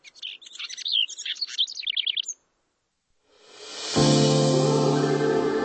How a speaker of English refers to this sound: at least until next spring, when that male house wren gets busy again.